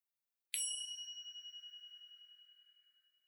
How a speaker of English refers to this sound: We invite you to sit in silent reflection until you hear the next chime.